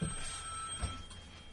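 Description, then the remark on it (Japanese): A telephone rings steadily through the whole moment, a fairly loud, continuous electronic ring with no voices over it. “ちょっと電話失礼しますね。”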